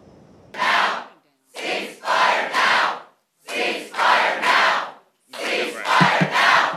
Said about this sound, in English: This was seen at last night's council meeting where they held up paper hearts bearing the names of children killed in Gaza. As the night went on, they took over that meeting with their chants.